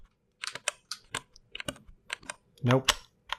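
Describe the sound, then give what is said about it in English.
Black mechanical keyboard switches are pressed and released in a loose, uneven series of crisp clicks and clacks, each key pressed and the finger slid off it to make it ping, with a brief murmur of voice partway through. “Like, okay, what I'm doing right now is I'm pressing it and then I'm sliding my finger off, which is really the way to make it ping, I think, right?”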